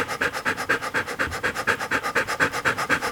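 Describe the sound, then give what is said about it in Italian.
A dog pants rapidly and steadily, quick breathy huffs repeating about five times a second with no pauses. No one speaks. “Eccolo qui, nel suo ansimare.”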